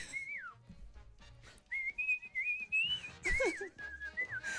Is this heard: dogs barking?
no